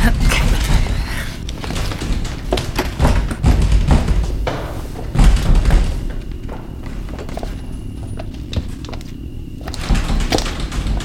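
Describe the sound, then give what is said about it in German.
A bedroom door in a house bangs and thumps over and over, heavy, booming knocks at an uneven pace, loud, with a brief lull before the pounding picks up again. “Die Tür! Da! Das ist Sus Zimmer!”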